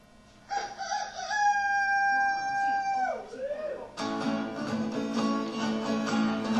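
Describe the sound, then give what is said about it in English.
A person imitates a rooster's crow, a single long, loud rising-and-falling cock-a-doodle-doo, followed by a burst of noisy, rough vocal sounds. “one of us is particularly gifted at rooster calls.”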